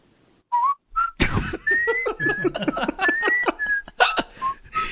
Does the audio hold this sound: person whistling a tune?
yes